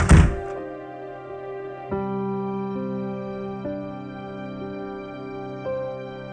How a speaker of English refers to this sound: Vin let the door swing shut.